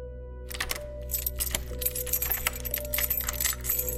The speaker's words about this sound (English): The lock clicks.